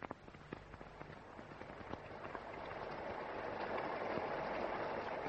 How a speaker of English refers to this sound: Is that rain, Mitz? Yes, Sister James. Oh, it's starting to pour.